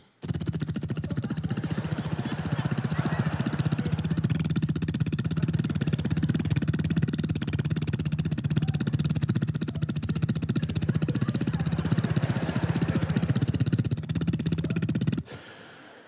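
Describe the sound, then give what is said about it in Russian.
A voice imitates a motorcycle engine idling at a traffic light, a steady, rattling, buzzing rumble held loud for about fifteen seconds before cutting off abruptly. “Мотоциклы. Я не люблю мотоциклы.”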